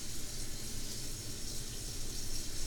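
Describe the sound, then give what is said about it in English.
Water runs steadily from a tap into a cat's water cup, a continuous hiss and splash with no pauses and no voices. “What happens if we turn on the water?”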